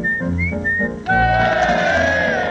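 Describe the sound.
A person whistles an imitation of the song of a blackbird, a well-known British bird: short, bright fluting phrases that rise and dip, followed by a longer, fuller warbling passage over a steady low hum.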